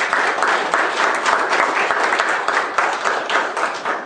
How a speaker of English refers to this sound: Give him a wonderful hand of applause.